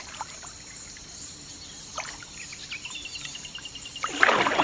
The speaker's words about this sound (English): I quickly got lost in the swift dip of the paddle into the water and the buzz of birds and crickets that broke through the quiet.